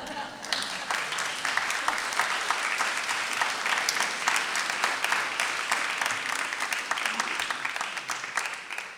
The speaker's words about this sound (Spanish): Yo los veo a ustedes como asombrados, estoy esperando que lo aplaudan.